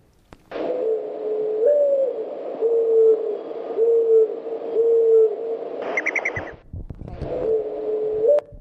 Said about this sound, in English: little beep, beep, beep, beep sound at the end? That's the wings. Whenever a mourning dove takes off or land, that's the wing call. And I want to play it just once more for you. You'll hear the difference. You'll hear the call and then the wing whir.